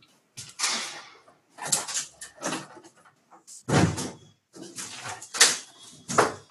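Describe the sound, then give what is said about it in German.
A window being shut: a series of scraping, rattling bursts of handling noise, then a solid low thud partway through, followed by a few more sliding rattles. “Ja, ich mache das Fenster zu, wenn ich tue da irgendwas hämmern.”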